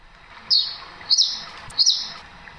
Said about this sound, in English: It sounds like a rainforest. You can hear the peaceful twittering of birds in the trees above and the gentle flow of water from a stream nearby. You can almost hear the humidity in the air. But none of this is real.